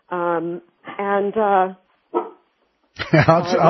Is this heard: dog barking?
yes